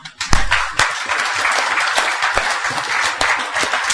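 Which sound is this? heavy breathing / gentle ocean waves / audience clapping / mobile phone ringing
audience clapping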